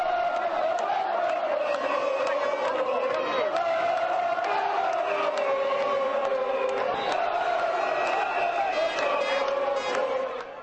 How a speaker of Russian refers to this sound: В серии послематчевых пенальти итальянцы были точнее 5-3. Вы можете услышать, как ликуют итальянские болельщики.